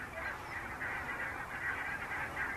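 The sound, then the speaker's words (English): A huge flock of some 3,000 to 4,000 geese honking continuously overhead near an estuary, a dense, overlapping wall of calls that stays loud and steady throughout with no pauses and no voices. “Oh, there's got to be 3,000 or 4,000 birds there, at the very least, I think.”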